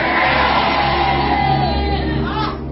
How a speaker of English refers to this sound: If you understand it, can you scream a better amen?